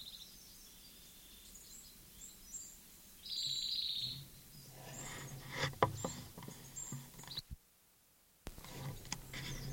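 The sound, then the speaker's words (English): A songbird nicknamed Closer Singer, recorded for about an hour, sings high, thin phrases, including a sustained buzzy trill, over soft rustling and scattered clicks, with a brief near-silent gap toward the end. No one speaks. “This is Closer Singer, the bird that I've been recording for an hour.”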